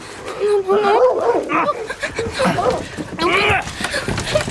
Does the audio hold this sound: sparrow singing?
no